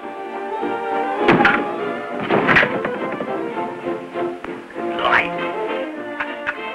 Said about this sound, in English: pounds the hat flat and closes the drawer.